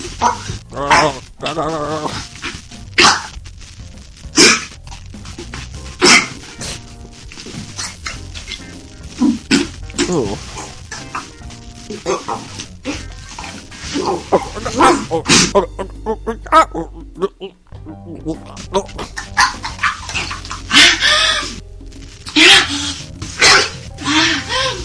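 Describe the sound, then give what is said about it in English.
In a played gag video, a woman gags and retches over and over in choppy, throaty bursts with short pauses between them. The sound is loud, with a strained, gurgling, almost gobbling quality. “And you know, I love the female gag videos because they always sound like turkeys.”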